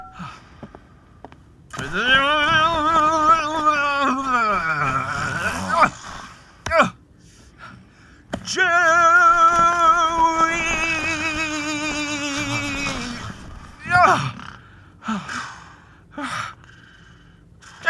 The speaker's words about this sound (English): That infernal snoring. How can you sleep through this?